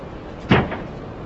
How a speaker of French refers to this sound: C'est comme ça qu'on frappe à la porte dans la mafia à coup de latte.